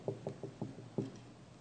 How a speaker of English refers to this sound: And all through the night, little knocks on our door. We got to where we knew what it was. We could hear them. First time it happened, we looked at one another. What was that? I don't know.